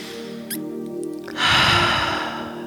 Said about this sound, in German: Atme nochmal mit mir zum Abschluss dreimal ein und aus.